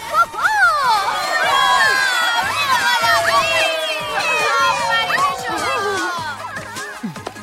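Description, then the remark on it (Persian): A loud audience cheers and shouts continuously as performers come onto the stage at a celebration, with many high, excited voices whooping and calling out together, sustained for several seconds before tapering slightly at the end. “رو تشویق کنید که میان به صحنه.”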